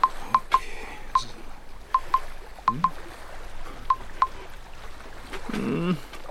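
A series of short, sharp keypad beeps as a phone number is dialed on a houseboat in the middle of the night, about eleven tones in uneven pairs and singles, clear, with faint background noise and a low rustle near the end.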